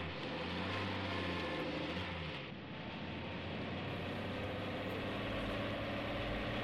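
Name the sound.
car engine running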